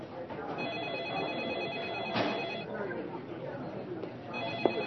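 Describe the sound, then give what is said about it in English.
A telephone rings at Task Force headquarters, where Captain Shryock was manning the phones on December 4th, in repeated bursts of high, trilling tones over the steady murmur of a busy room, with people chattering in the background throughout. “On December 4th, Captain Shryock was manning the phones at Task Force headquarters.”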